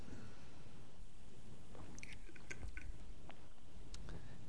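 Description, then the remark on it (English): Someone takes a drink of green tea: a few quiet, wet slurping sips followed by swallows and soft mouth clicks over a low background rumble, with no talking. “So if I take a drink, as quite often, here it's not water, it's green tea.”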